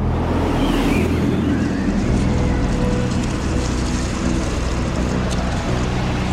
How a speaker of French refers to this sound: La première semaine en mer de Bounty est rythmée par la tempête. En cet hiver 1787, des vents violents remontent du golfe de Gascogne et la mer se déchaîne sur la coque du navire.